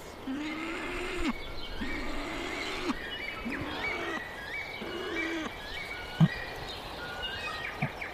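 A male bird gives a series of low, rough growling calls, about five in a row at a steady pace, calling his mate or chicks that he has food, while other birds chirp and whistle more faintly at a higher pitch.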